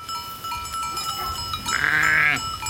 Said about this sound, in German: Im Dorf Florescht führt der Wanderweg durch eine Weide mit rund 200 Schafen.